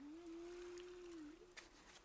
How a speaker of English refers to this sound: Did you hear that, Moby? A whale calling.